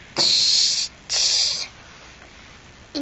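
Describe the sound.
A child imitates a train with breathy, hissing bursts, two long chuffs about half a second each, then a third beginning at the end, fairly loud with no talking.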